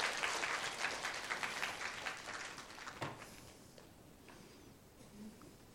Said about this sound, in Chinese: 你们出来，来前面，我们鼓掌，请欢迎他们出来。